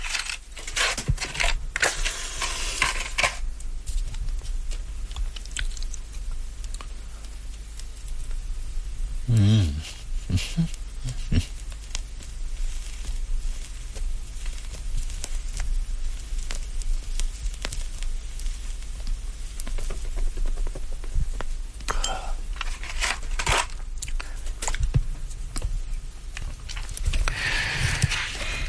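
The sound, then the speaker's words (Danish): Rustling and crumpling with sharp clunks and crackles as a fire is lit in a stove, the busy handling sounds coming in bursts at the start and end with quieter shuffling between. “Nu skal jeg altså have ild i den.”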